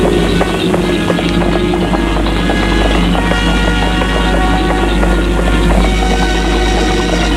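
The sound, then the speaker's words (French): Horse hooves clip-clop steadily and quickly as a horse is ridden, a dense run of hoofbeats under a constant rush of wind and low rumble, loud throughout. “Chevaucher son cheval vers le domaine de Jeanne, peut-être en espérant la voir.”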